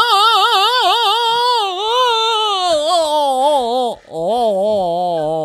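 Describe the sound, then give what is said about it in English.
A human voice imitates a creature's terrifying howl or moaning call, as described by native sources and Captain Hitchens: a long, loud, wavering wail whose pitch wobbles up and down, with a short break near the end before it slides lower and trails on. “He describes its terrifying howl or moaning call.”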